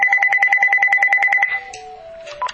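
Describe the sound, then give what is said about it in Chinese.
A landline telephone rings with a rapid, steady electronic trill for about a second and a half, loud, then cuts off, leaving a few faint tones and quiet, as a call is made on the landline instead of Skype. “哎，牧师，对不起，我们的这个 Skype 今天晚上不大好，现在我用 landline 打电话给你”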